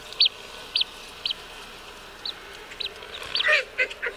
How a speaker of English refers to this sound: So in this recording, you heard two different sounds, that high peeping, the whistling peep. That's the male blue-winged teal. And that quack, quack, quack you heard, that's the female blue-winged teal.